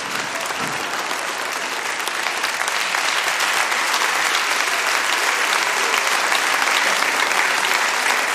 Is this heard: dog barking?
no